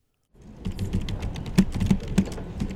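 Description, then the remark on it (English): Rapid clicking of computer keys as workers type at computers in FEMA's statewide headquarters in Research Triangle Park, North Carolina, during the Hurricane Florence recovery: a dense irregular patter of keystrokes with a few sharper, louder taps standing out, continuing steadily after a brief silent start. No voices are heard. “Inside FEMA's statewide HQ, workers in khakis, collared shirts, and ID badges typed away at computers and worked phones.”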